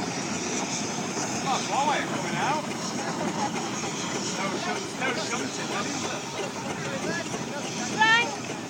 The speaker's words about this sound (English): That's a roller going in reverse.